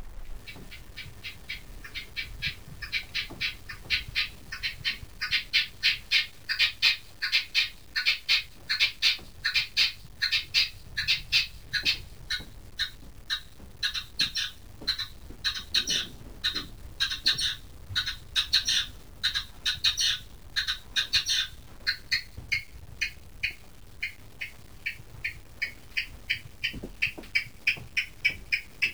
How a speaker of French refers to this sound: Par exemple, comment j'ai utilisé l'aspect rythmique de certains oiseaux. Voilà par exemple une perdrix rouge qui m'est apparue comme un rythmicien tout à fait intéressant.